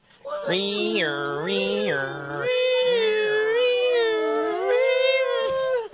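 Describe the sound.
A group of voices imitates an ambulance siren, wailing loudly and continuously in rising and falling two-tone swoops for several seconds, sustained.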